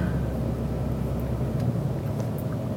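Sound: car interior road noise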